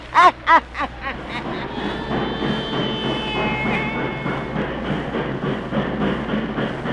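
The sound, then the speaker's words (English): A train rumbles steadily outside a little railway depot in Louisiana after a few loud, sharp bursts at the start, with a high metallic squeal drawn out over the middle as it seems to slow. “And outside a little railway depot there begins our yarn about Graveyard Mansion.”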